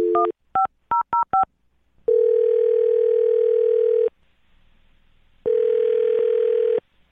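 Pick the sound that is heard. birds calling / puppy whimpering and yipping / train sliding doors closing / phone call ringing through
phone call ringing through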